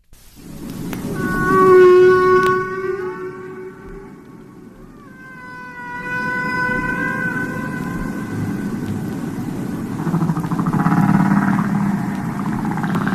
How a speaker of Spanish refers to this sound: Pero hay discos enteros con cantos de ballenas.